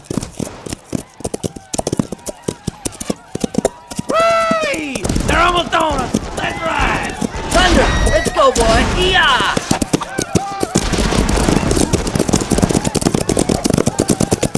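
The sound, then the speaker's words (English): Rapid, rhythmic hoofbeats of a galloping horse pound steadily throughout, loud and driving, while high wavering cries and whinny-like calls rise over them in the middle stretch. “They're riding alongside the ravine.”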